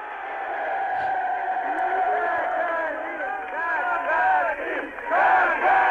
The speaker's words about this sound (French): On entend ce nom scandé par la foule à Moscou, donc, où Gagarin arrive le lendemain.